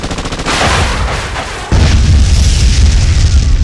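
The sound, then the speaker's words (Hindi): A loud, relentless barrage of artillery shell explosions, heavy booms rolling into one another, with a sudden bigger blast partway through that deepens the rumbling roar. The shells of many guns are raining down on Captain Manoj and his soldiers. No voices. “लगभग 70 मशीन गने और कई तोपों के गोले मनोज और उनके साथियों पर बरस रहे थे।”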